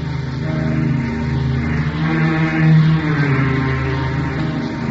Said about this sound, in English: Rain clouds were gathering for a squall, and the motor launch streamed through billowing waves toward an island looming on the horizon.